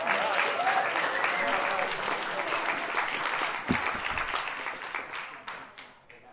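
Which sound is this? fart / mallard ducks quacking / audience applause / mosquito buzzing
audience applause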